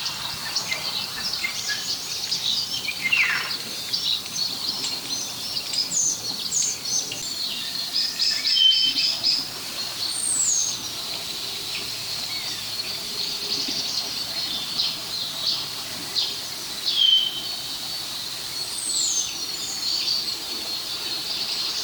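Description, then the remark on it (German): A common starling sings from a tree, a long, varied medley of whistles, clicks and chirps mimicking phone ringing, static crackling and creaking, and calls of red kites and common buzzards, over a steady high buzzing background. The song stays continuous, with no talking. “Wenn all das aus einem Baum kommt, ist es höchstwahrscheinlich der Star der Vogelwelt.”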